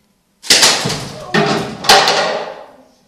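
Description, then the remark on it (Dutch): A chair scrapes across a hard floor and bumps to a stop, with three sharp knocks in a row amid the grinding noise, fairly loud, then fading out. “Die stoel kan niet verder.”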